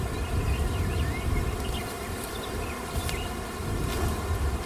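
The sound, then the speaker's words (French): A dense, continuous buzz of many agitated honeybees that have just been blown on surrounds the listener. It is steady and fairly loud, with a low rumbling hum beneath and occasional higher whines of individual bees passing by. “Elles sont pas contentes. On souffle pas sur les abeilles.”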